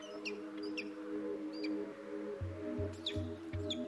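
Two very young peregrine falcon chicks in all-white down, at a nest on a steep sea cliff facing the sea, give short, high, repeated chirping calls in a loose rhythm, fairly faint, over a steady low droning tone with soft pulsing thumps toward the end.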